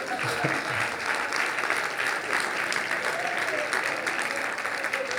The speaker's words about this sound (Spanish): Dale un aplauso a Dios.